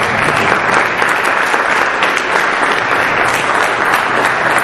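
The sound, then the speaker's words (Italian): Young people applaud themselves after a prayer, having been told they did very well: a dense, continuous patter of many hands clapping at an even loudness for several seconds, with no voices standing out. “Bene ragazzi, grazie, fatevi un applauso, siete stati bravissimi.”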